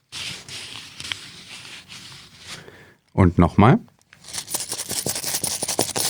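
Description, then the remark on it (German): Crinkling and rustling of paper banknotes with small clicks, then a short spoken phrase, then more handling with sharp little clinks of coins being shuffled together. “Geldscheine und Münzen waren das.”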